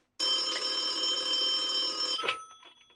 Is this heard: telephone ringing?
yes